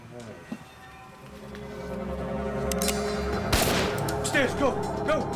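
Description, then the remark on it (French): A single sharp gunshot, fired inside the Yugoslav mission to the United Nations in New York, cracks out partway through, loud and abrupt, over a steady bed of murmuring voices and low background rumble. “Des policiers qui avaient entendu le coup de feu se précipitèrent à l'intérieur du bâtiment.”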